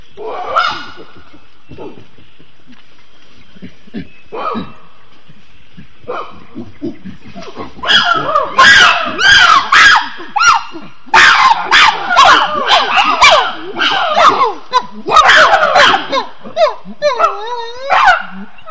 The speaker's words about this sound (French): Donc ça, ce sont les cris que les chimpanzés émettent quand ils sont heureux et contents de trouver une source d'alimentation telle que ce grand ficus.